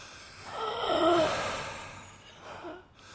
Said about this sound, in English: This is normal breathing, by the way. This is not like some Jason imitation. I'm the one you can't hear breathe. I'm a little wheezy.